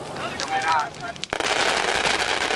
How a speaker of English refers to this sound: A burst of supersonic shells from a distant plane tear up their target. A couple of seconds later, the sounds of the gun itself arrive in the A-10's signature raspberry salute.